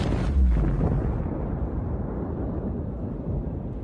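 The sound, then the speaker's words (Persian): A single loud explosion bursts with a deep, booming low-end thump, then leaves a long rumbling roar that slowly fades and darkens. No voices are heard. “عجب انفجاری، نجات پیدا کردیم.”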